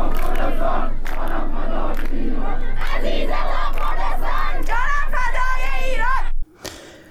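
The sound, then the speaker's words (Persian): A large crowd of protesters in Tehran chants anti-government slogans from inside homes and residential complexes at night, in loud, rhythmic unison, voices rising and falling together for several seconds before cutting off abruptly, followed by a brief quieter murmur. “در تهران گروهی از معترضان همچون شب‌های گذشته از داخل خانه‌ها و مجتمع‌های مسکونی شعارهای ضد حکومتی سر دادند.”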